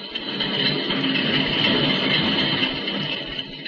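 vehicle, train rolling on rails

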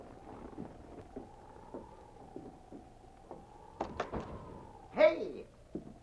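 household object, door being opened quietly

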